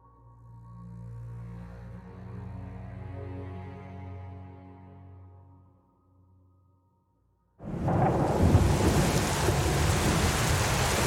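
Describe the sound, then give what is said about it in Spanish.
A low, rolling rumble of thunder swells and fades over several seconds on a stormy day, then after a short silence steady, loud rain starts beating against a bedroom window without pause. “Hoy es un día de tormenta. Escucho el susurro de la lluvia golpeando la ventana de mi habitación como una llamada.”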